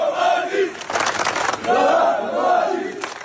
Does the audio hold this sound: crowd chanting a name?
yes